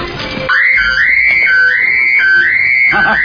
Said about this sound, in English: Siren mode! Pretty neat, eh? You know, I can raise all the police channels and the power company channels on this baby.